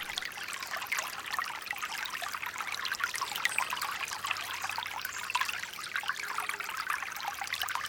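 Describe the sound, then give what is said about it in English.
A steady, gentle trickle of creek water runs over stones in a deep forest lined by giant trees and low ferns, a continuous bright babbling with small splashes throughout, unbroken, with no voices. “Hidden inside a deep forest, lined by giant trees and low, lush ferns, water streams down a creek. Gently close your eyes and listen to the trickle of water.”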